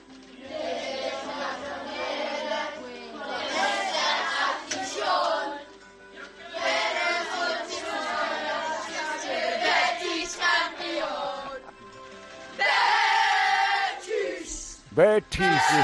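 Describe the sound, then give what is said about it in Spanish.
A group of schoolchildren from a school in London, England, sings the Betis anthem together as a football chant, voices rising and falling in a loud, rhythmic unison, with a brief burst of cheering near the end. “Aquí en nuestra clase de Londres hemos aprendido el himno del Betis y lo cantaremos ahora para inspirar al Betis a ganar la Copa del Rey.”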